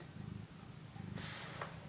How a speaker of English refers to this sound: Don't purr at me. Don't purr.